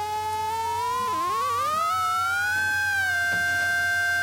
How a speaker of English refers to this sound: You're choosing the source material for the theremin. Then when you hold your hand up, it alters that source material.